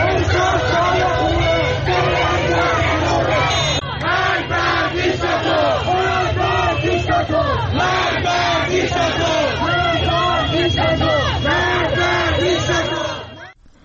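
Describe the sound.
A large crowd of protesters in Tehran, Iran, shouts and chants together, a dense, loud wall of overlapping voices with rising and falling cries that keeps going for about fourteen seconds before cutting off.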